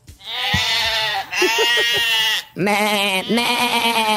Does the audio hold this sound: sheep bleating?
yes